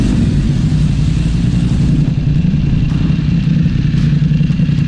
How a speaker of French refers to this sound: Ouais, ben je vous entends pas. Avec votre moteur, je vous entends pas.